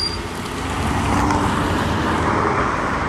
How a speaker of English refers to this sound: And I stepped out into the street and there was a car coming. Then they stopped and then they wouldn't go.